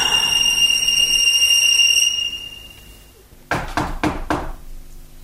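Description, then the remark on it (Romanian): Four quick, sharp knocks on a door, fairly loud, in an even rhythm, following a high sustained ringing tone that fades into quiet. “Bate la ușă.”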